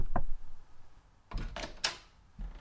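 Knocking on a hotel room door, fairly loud: one sharp rap, a pause, then a quick run of three knocks followed by a final softer one, with no voices.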